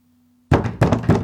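A police detective knocks three firm, loud knocks on a door, evenly spaced about a third of a second apart after a brief quiet moment with a faint low hum.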